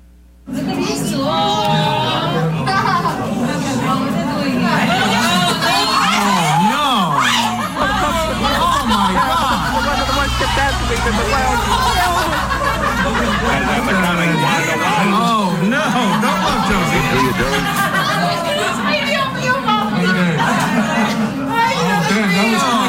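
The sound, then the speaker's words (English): A dense crowd at a zoo chatters and murmurs as it watches a display, many overlapping voices with scattered laughter and snickers rising out of the steady, loud hubbub throughout. “As the crowd watches this display.”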